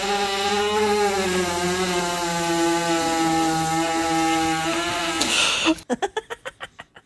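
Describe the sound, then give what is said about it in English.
A horse, lying flat in a barn while a girl presses on its stomach to relieve gas, passes gas in one long, loud, buzzing blast with a steady pitch, ending in a quick run of about nine sputtering pops. No one speaks. “One word on a horse fart.”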